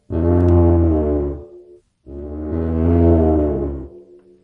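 A lion's roar friction drum, a suspended one-headed drum with a string coming out of the head, played by pulling a wet washcloth along the string, gives two long, loud, rough groaning roars, each about a second and a half, rich in buzzing low harmonics with a brief pause between them and no talking.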